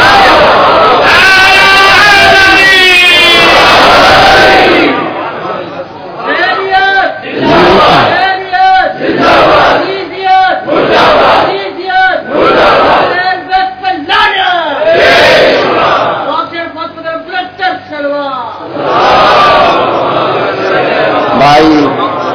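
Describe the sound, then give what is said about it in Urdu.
A large crowd chants slogans in loud, rhythmic bursts of many voices shouting together, with short pauses between each call and response, repeating for the whole stretch. “آپ محبت میں نعرے لگاتے ہیں, میں نعروں کے خلاف نہیں ہوں, مگر جتنے نعرے آپ لگاتے ہیں اتنے سیکنڈ میرے کم ہو جاتے ہیں, اتنے ہی منٹ میرے کم.”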